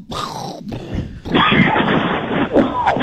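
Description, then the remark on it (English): A deep, rough cough breaks out in heavy, raspy bursts, a short one first and then a longer, harsher fit that rattles on low and loud. “Like that is a deep, deep cough.”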